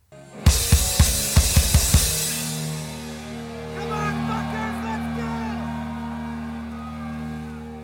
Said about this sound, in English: Yelling at the crowd, and then being able to hear that in the microphones later when we were editing it, it was like, oh shit, that's me yelling.